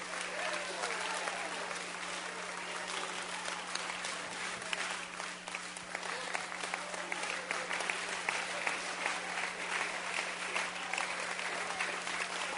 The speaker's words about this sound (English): Oh, go ahead and give him a hand clap in the house.